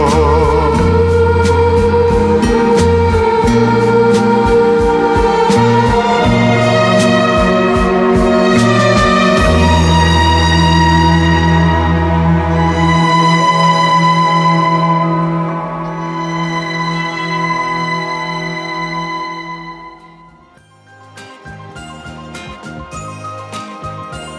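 A bright instrumental theme tune plays loud, with a bouncy bass line and chiming melody, dipping briefly near the end before returning with punchy closing notes. No one speaks.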